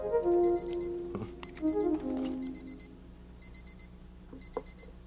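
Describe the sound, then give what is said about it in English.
An alarm clock beeps in quick bursts of four high, thin tones, repeating about once a second, fairly quiet and steady over some lower background sounds at the start. “It sounds like an alarm clock.”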